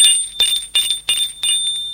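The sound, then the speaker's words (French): A high, bright doorbell at the door of a house rings continuously for two seconds, with rapid repeated strikes over a sustained metallic tone. It is fairly loud, with no voices. “Un jour, qu'il est seul à la maison, l'on sonne à la porte.”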